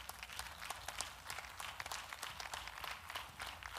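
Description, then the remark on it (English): A crowd applauds steadily, many hands clapping in a dense, continuous patter that stays fairly even throughout, with no voices standing out. “No, no, no. Everybody needs to clap for that.”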